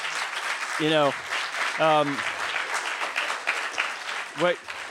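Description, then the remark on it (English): An audience at a live comedy show claps steadily throughout, a dense wash of applause, with a few loud whoops and cheers rising above it near the start and once more toward the end. “Let's hear some applause for people who are familiar with comedian Dave Smith.”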